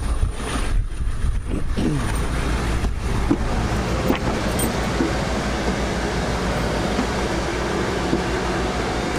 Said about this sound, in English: And there's a whole bunch of media trucks out here. So everybody is... a lot of diesel idling. A lot of diesel idling out here.